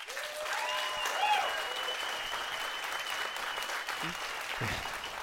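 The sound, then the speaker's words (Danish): An audience claps steadily for about five seconds, a dense, even patter of many hands that stays fairly loud throughout, with a few thin whistles rising over it early on. “Så jeg tænker egentlig bare, at alle, der har lyst til at høre min historie, de klapper nu.”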